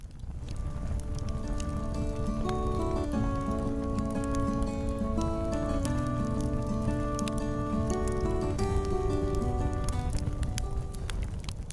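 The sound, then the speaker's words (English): The jingle for the Campfire Chat segment plays: a steady, gentle melody of sustained tones shifting in pitch, over a constant crackling, pattering texture, at an even volume throughout with no voices. “Do I hear a campfire tune?”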